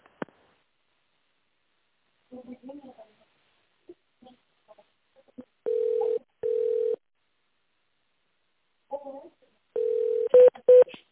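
A steady telephone line tone sounds in long beeps, broken up by short bursts of touch-tone keypad dialing of an extension in tone mode on a call to the engineering firm Tsentr Servis, with a few faint clicks, ending with quick high dial tones in a rapid sequence.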